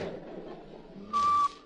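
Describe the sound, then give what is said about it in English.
A short, steady human whistle rings out near the end, one clear held note lasting a fraction of a second, following a stretch of low, muffled background murmur. “In whistling, those H's always sound like C's.”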